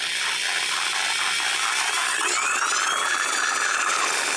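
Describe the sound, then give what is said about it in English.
A high-pitched electric saw, of a kind used to cut through metal, wood, bone and tissue, is turned on and runs steadily and loudly for several seconds, its bright whine holding constant with faint shifting overtones and a gritty, buzzing edge, with no voices. “I don't know how you can sit there and look at that saw.”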